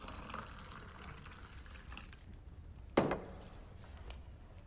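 A brown liquid pours steadily into an extra large glass, a soft, quiet, continuous gurgling splash, broken by one sharp clink or knock near the end before the pouring fades back.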